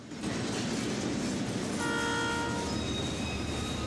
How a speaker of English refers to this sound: The train draws closer and closer